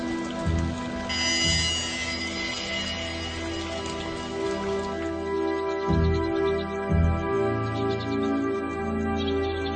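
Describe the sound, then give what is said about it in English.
Steady rain falls without pause, a dense continuous patter at moderate loudness over a low sustained drone, with no voices present. “When rain falls, they draw closer together in their camp, using their wings as umbrellas.”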